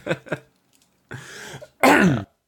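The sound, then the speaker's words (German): Two quick, sharp coughs, then a rough, raspy throat clearing and a louder, harsher, drawn-out clearing, with no talking. “Ja, irgendwann wirst du bei uns gar nicht so verstehen von lauter Husterei und Räusperei.”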